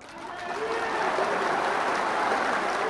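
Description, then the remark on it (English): A crowd of supporters cheers and applauds steadily for a candidate announcing his withdrawal from an Afghan election, a dense, sustained wash of clapping and voices that swells slightly at the start and holds at a loud, even level throughout. “His supporters cheered him on.”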